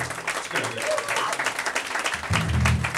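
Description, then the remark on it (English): An audience applauds for a band's drummer, Linda Pittman, in steady, dense applause, a continuous wash of many hands clapping at even loudness, with a low voice or cheer rising underneath toward the end. “And more practical level, our drummer, Linda Pittman, which you can applaud for if you like.”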